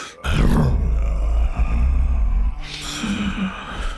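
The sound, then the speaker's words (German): A loud, deep, growling roar imitating a lion, delivered by a voice, lasting a couple of seconds, then trailing off into a rougher, breathy growl. “Da brüllte es noch lauter als vorher zurück.”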